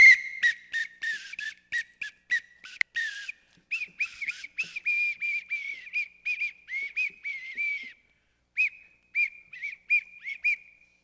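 Shrill, bird-like whistling repeats in quick bursts, starting with sharp chirpy blasts and settling into a steady string of piercing, warbling whistles, loud with no talking.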